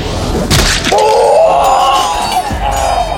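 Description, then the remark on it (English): During a sword battle in a story, a loud, high, wavering scream holds for about two seconds after a brief crashing burst, with another dull thud near the end and a rumbling background throughout. “Everybody in the room stopped what they were doing upon hearing the scream.”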